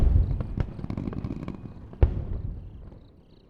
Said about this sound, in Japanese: うわー、すごい。今日一番すごい花火だ。